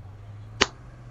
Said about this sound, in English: You like having your pussy slapped?